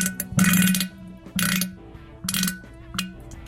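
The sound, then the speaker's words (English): Several loud, sputtering bursts of flatulence into a toilet after an enema, recorded with a mic positioned at the toilet: four rough blasts with short pauses between them, mostly gas with little splashing and no talking. “Honestly, it doesn't sound like there's much in her. It's more gas than anything.”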